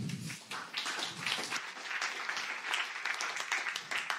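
Sustained applause from an audience, a dense, steady wash of many hands clapping at even loudness for several seconds with no voices on top.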